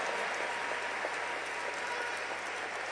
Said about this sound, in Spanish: El aplauso para los abanderados,